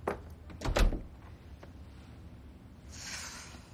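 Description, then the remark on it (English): A door is pushed shut with one solid, fairly loud thud and a short rattle. Quiet follows, then a soft airy hiss rises near the end. Nobody speaks. “Vanessa shuts the door.”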